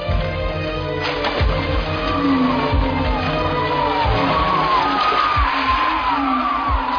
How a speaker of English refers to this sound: Do you know what that sound is, Highness? Those are the shrieking eels. If you don't believe me, just wait. They always grow louder when they're about to feed on human flesh.